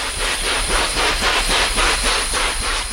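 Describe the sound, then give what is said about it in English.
Rhinoceros hornbill wing beats in a forest in Borneo: a loud, steady run of rhythmic, breathy whooshes, about three per second, like a chugging helicopter, with no voices. “What sounds like an approaching helicopter are actually the wing beats of a remarkable bird called the rhinoceros hornbill.”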